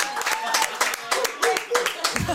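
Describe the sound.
A small group claps together for a couple of seconds at a home in Storvreta, Sweden, during a visit by the radio show Energy Morgon. The claps are quick and uneven, with a few voices calling out over the applause.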